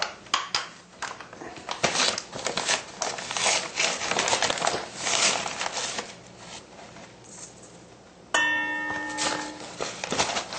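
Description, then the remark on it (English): Corn flour for empanadas being mixed with water in a bowl: a steady, gritty rustling and scraping with scattered sharp taps, ending in a bright ringing clink against the bowl. No one speaks. “So first, we will mix the corn flour.”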